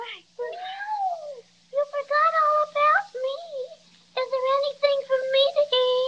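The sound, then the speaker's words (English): A cat meows repeatedly, a string of high, wavering, drawn-out cries with short pauses between them, fairly loud with nothing else in the background. “Well, I didn't mean to overlook you, little fraidy cat.”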